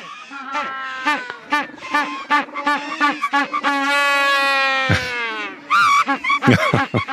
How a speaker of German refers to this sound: Oh, zu letzterem habe ich einen schönen Sound mitgebracht. Ihr hört mal den Magellanpinguin.